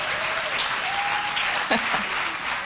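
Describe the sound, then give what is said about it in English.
An audience claps steadily, a dense, even wash of applause with no pauses, while a voice briefly calls out partway through. “It's all right to clap.”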